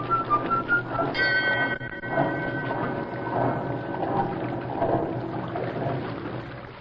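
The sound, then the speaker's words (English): On a misty river, a few short piping whistle notes, then a loud, steady, flute-like whistle blast for under a second, over a constant wash of churning water that continues to the end. “Blow your flute at me, will ya?”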